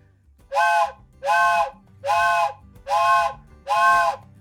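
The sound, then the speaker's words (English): A steam locomotive whistle sounds five evenly spaced, loud, breathy blasts, each rich and chord-like with a hissy edge, over a low rumbling background, as the train approaches a public grade crossing and signals. “Train is approaching a public grade crossing.”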